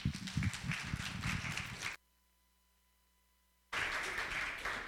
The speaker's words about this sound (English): Would you greet him with some claps?